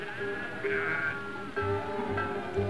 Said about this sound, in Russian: За ними шли пастухи и вели 220 овец и баранов.